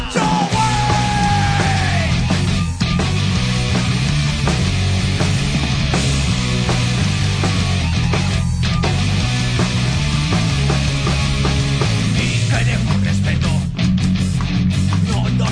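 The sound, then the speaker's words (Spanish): A loud, dense rock song with shouted, yelling vocals over heavy distorted guitars and pounding drums, playing continuously at full volume throughout. “¿Queréis decirnos algo de esta canción antes de arrancar?”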